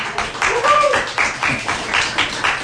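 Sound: audience applause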